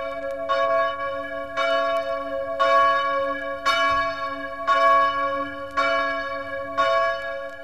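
The new Eszterházy bell of the Exaltation of the Holy Cross chapel in Alsóbodok, blessed by Pope Francis, tolls steadily, about seven strong strikes roughly one second apart, each leaving a long shimmering hum that overlaps the next. No voices, just the loud ringing.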